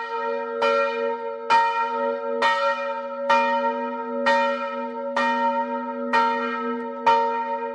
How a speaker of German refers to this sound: wobei die große Glocke nach dem Krieg neu gegossen wurde, so viel ich weiß, in Temeswar sogar, weil die andere Glocke im Krieg, ich weiß nicht, welche Umstände und wie, jedenfalls hat man nach der neue Glocke fertigen lassen.